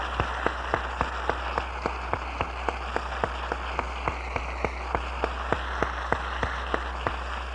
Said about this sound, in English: Let's give them another applause for the beautiful music.